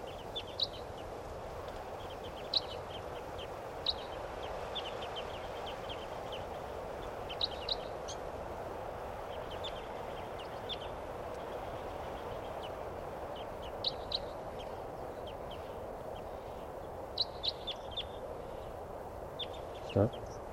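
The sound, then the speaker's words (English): Short, high-pitched calls of a flock of type 2 crossbills in the trees chirp in scattered bursts, some in quick pairs, over a steady rushing background of wind or leaves. The calls are fairly faint and irregularly spaced. “and there are some type 2s in the trees here, pointing at the wild birds.”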